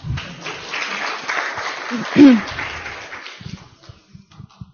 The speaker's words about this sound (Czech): Tak jeden potlesk byl za odvahu a teď prosím vás ještě druhý potlesk za to, jak to hezky řekla.